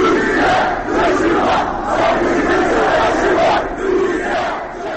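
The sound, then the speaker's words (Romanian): A loud crowd of about 250 protesters, mostly Crimean Tatars, chants slogans such as "Turkey, help your brothers" and "shoulder to shoulder against the enemy" in unison, in the rain outside the Russian consulate in Istanbul, many voices shouting together in a steady, rhythmic cadence that rises and dips in repeated phrases throughout. “Protestatarii scandând Turcia ajută-ți frații și umăr la umăr împotriva dușmanului au exprimat solidaritatea cu semenii din peninsula ucraineană”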